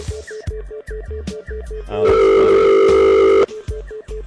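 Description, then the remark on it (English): A telephone line gives off a rapid series of short, evenly spaced electronic beeps, broken by a steady, louder continuous tone lasting over a second before the quick beeping resumes. No voices. “Don't hang up on that. That was beeping.”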